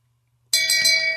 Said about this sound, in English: I got to throw a flag on myself. I think I deserve a shame bell.